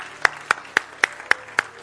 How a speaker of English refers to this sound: Let's give the Lord a clap. Praise God. Glory to God.